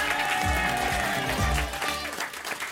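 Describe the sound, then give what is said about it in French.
Loud, sustained applause from a studio audience at Europe 1, welcoming Héloïse Martin and Maréva Galanter, with steady dense clapping that holds for a couple of seconds before thinning out slightly, accompanied by a low musical backing. “Merci de faire un tonnerre d'applaudissements pour Héloïse Martin et Maréva Galanter.”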